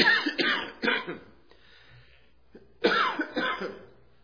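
A wet cough from a person who has had the cough for weeks comes in two fits: a quick run of several harsh bursts, a short pause with a faint breath, then another cluster of hacking coughs, with no talking.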